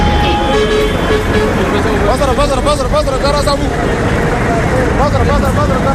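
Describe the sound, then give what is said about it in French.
Car horns honk in a busy street, a few blasts rising over a constant roar of traffic and engines, with a murmur of voices mixed into the loud, crowded scene. “Mais une fois que tu klaxonnes, l'attention est là.”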